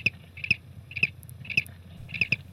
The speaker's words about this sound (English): Let's hear that single cricket recorded on tape just one more time.